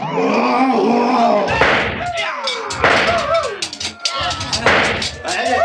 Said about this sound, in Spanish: Los samuráis evaden con habilidad increíble, dando saltos asombrosos a los disparos que les hacen los primeros patrulleros.